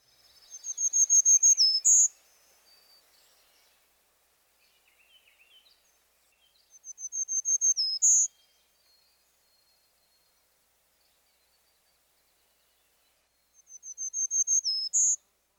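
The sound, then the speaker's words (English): A black-throated green warbler sings its high, thin buzzy song three times: a quick series of wheezy notes ending on a brighter final note, each phrase separated by several seconds of quiet. “The black-throated green warbler's high-pitched song is traditionally represented as zee zee zee zoo zee.”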